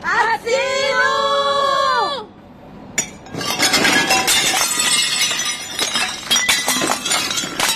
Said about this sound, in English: overturned a symbolic holiday table while shouting for help.